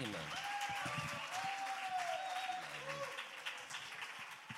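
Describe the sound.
A crowd applauds steadily for a few seconds, dense clapping with faint voices and a brief tonal whoop or cheer rising over it, at a book presentation with children in the audience.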